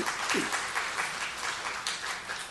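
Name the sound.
audience applause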